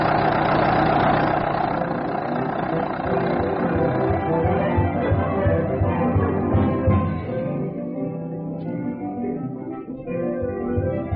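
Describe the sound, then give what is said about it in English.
An old automobile engine runs steadily as the car sets off at about 20 miles an hour, a loud low chugging rumble with rattling mechanical clatter, its tone shifting slightly as it keeps going without pause. “Great thing, the automobile. Everybody hold on now. I'm going to do about 20 miles an hour.”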